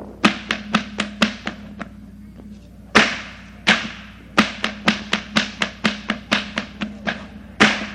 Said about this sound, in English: all of you have seen the rodeo acts, and this is what we call the firecracker in a rodeo whip-popping act. This is a firecracker.